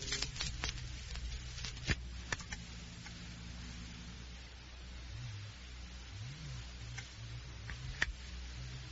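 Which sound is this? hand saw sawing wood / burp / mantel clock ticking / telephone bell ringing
mantel clock ticking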